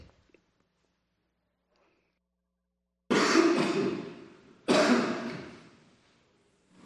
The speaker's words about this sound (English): Excuse me a second while I cough.